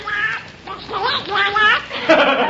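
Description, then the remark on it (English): A voice performer coming up out of an audience imitates a cartoon duck, delivering a steady stream of raspy, garbled quacking speech for a couple of seconds. “Who is that calling down in the audience? It's Donald Duck”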